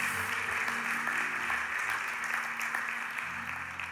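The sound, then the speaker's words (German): Steady audience applause at a church service, for the leader of the church's Ranger work, fills the whole stretch, a dense wash of many hands clapping at once, fairly loud and sustained, with a faint low hum beneath and no clear talking. “Ein Applaus für dich.”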